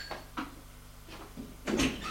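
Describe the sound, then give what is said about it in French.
A door opens as someone answers a ring at their door, with a few short clicks and knocks of the latch and handle, then a louder scraping, rustling swing at the end, over a low steady hum. “Il va ouvrir.”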